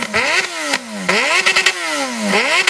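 motorcycle engine revving

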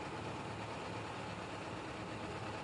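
car engine idling

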